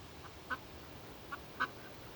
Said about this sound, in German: Oh, guck dir mal die Enten an. Das sind Hunderte. Ich habe noch nie so viele Enten gesehen. Wahnsinn.